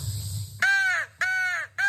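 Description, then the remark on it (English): Three loud, harsh crow caws in steady succession, each drawn out, following a brief low rumble at the start; crows answering a person's crow whistle during a morning feeding. “And they're talking back. He's answering me back.”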